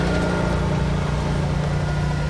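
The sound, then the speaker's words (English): A lawn mower engine drones steadily throughout, a constant low hum with a buzzy, rattling texture and no change in loudness or pitch. Nobody speaks. “They were mowed while I was sitting waiting for you, and I thought that all the noise would be gone.”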